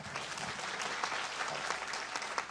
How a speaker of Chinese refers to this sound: 主俾啲掌声，我哋嘅天父。